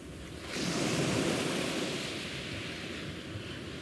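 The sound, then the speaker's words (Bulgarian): Sea surf washes in after a brief quiet moment, a broad rushing roar that swells and then holds steady as waves break, with a hint of wind; no voices. “Това в далечината дали не е морето?”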